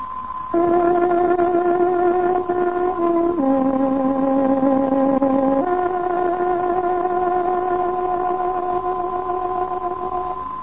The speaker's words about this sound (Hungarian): Kedves hallgatóink, pontos időjelzést adunk. Tárogatónk hangja 20 órát jelent.